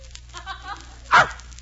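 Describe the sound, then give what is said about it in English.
A dog named Gladys gives a single sharp, loud bark, preceded by a faint, higher whimpering or yipping sound, with a low steady hum in the background. “You mean Gladys was supposed to be my dog?”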